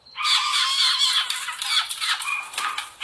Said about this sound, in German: Diese winzigen Eichelhäher-Babys schreien, weil sie Futter haben wollen.